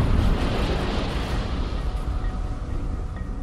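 ship explosion

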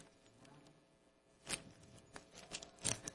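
bible pages being turned

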